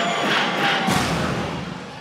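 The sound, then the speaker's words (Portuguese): A crowd of young men lets out a loud, sustained group shout, the cheer of the single guys ("grito dos solteiros"). A dense roar of voices swells in the middle and holds steady for about two seconds before easing slightly. “Escuta, eu tô falando na caoseiro, cadê o grito dos solteiros?”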